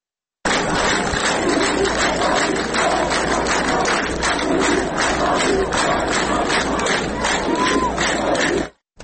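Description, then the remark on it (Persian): A large crowd at a burial ceremony for people killed, including children, chants slogans against the Islamic Republic and Ali Khamenei in unison, a dense roar of many voices rising and falling in steady rhythmic pulses, loud and sustained throughout before cutting off abruptly. “دشتی، ایزه و سمیرم در مراسم به خاکسپاری جانباختگان و به ویژه کودکان کشته شده شرکت کردند و شعارهای علیه جمهوری اسلامی و علی خامنه ای سر دادند.”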